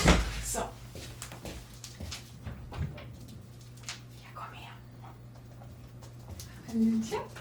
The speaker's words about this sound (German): Leute, darf ich ganz kurz aufstehen? Meine drei Jungs zu Hause schlafen eigentlich, aber ich höre gerade, dass mein großer Kater vor der Tür steht und der schläft sehr oft in diesem Zimmer. Achtung, wird vielleicht ein bisschen quietschen, der Stuhl.